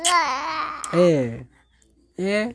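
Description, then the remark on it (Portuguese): A baby boy babbles in loud, sing-song bursts of rising and falling coos, pauses for a moment of quiet, then lets out one more short vocal burst. “Oi, esse é meu bebê, eu tenho um filho,”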